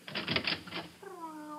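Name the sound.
kitten meowing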